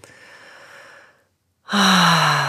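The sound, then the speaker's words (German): A deep breath: a soft, airy inhale, a short pause, then a much louder, forceful exhale with a slight voiced, sigh-like tone. “Aber bevor wir loslegen, atmet erstmal tief durch in gewohnter Art und Weise.”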